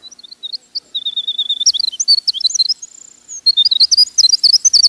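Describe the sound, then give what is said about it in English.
A winter wren sings a long, rapid, high-pitched song of tumbling trills and bright chirps, with a brief sustained whistle midway, heard clear with no voices. “When people think of a bird song, they seem to expect something ethereal, something no mere human could produce, like this winter wren song.”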